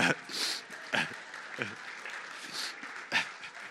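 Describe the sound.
A church audience applauds a participant after a Christmas object guessing game, a dense patter of many hands clapping steadily, with a few sharper bursts standing out and some voices mixed in beneath.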